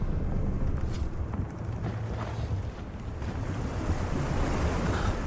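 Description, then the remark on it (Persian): Loud, churning sea water rising quickly, with waves surging and crashing continuously, a dense roaring wash that fills the scene, with gusty wind buffeting underneath and no voices. “آب داره سری بالا میاد. هسی، اگه دریا رو میشناسی وقتشه ثابت کنی.”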